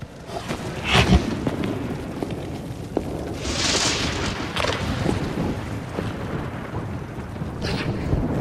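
A raging storm roars steadily throughout, with heavy wind noise, deep rumbling and a few louder gusting surges. No one speaks.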